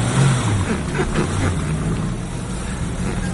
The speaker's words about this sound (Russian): Будь держитесь крепче. Кросы каменные. Бедная машина. Что делать? Не всякий бы проехал с такой дороги на своей машине